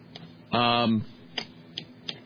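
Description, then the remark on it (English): Several sharp, crisp clock ticks sound at uneven intervals, fairly loud, with a brief buzzy, harmonic tone cutting in between the first and second ticks. “The clock is ticking on America.”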